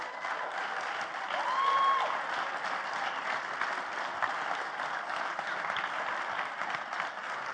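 An audience claps steadily for several seconds, a dense, even patter of many hands that swells slightly near the start, with a faint whistle rising briefly over it.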